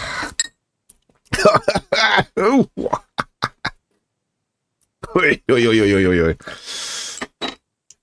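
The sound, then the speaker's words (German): A person coughs and clears their throat in a series of harsh, uneven bursts, some drawn out with a strained, voiced rasp, separated by short silences. “Ja, das dürfte meinen Husten doch jetzt hoffentlich vertreiben.”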